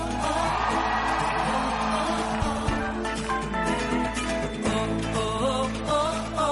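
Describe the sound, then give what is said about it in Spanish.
A large audience shouts and cheers for joy together in a loud, sustained roar of overlapping voices and whoops that lasts several seconds without letting up. “¿Cuántos pueden dar un buen grito de júbilo?”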